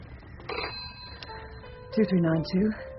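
A telephone rings with a warbling electronic tone, sounding in short bursts near the end over a low room hum, with a few faint clicks and tones earlier.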